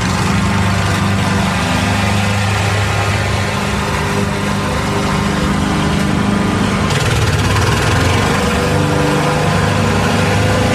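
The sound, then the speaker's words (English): A lawnmower engine runs steadily and loudly, its droning hum and harmonic buzz holding constant for about eleven seconds with a slight shift in pitch partway through. “That was a lawnmower.”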